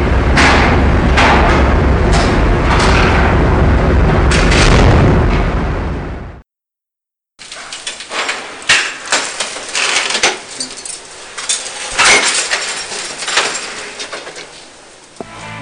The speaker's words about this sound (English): Here's what things sounded like as the whaling factory ship Nishin Maru rammed both the Bob Barker and the South Korean tanker they had hoped to refuel from.